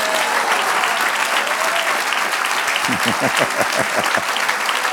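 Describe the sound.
An audience at a church service breaks into steady, loud applause, a dense wash of many hands clapping that continues throughout, with a few voices rising beneath it near the end.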